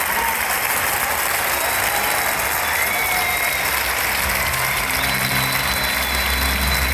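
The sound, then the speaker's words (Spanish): A large concert audience in Madrid gives the performer an ovation, a dense steady roar of clapping with faint cheers mixed in, loud and sustained throughout with no pauses. “Recibir esta ovación, el público también muy emocionado, sabiendo que posiblemente habían acudido al último concierto”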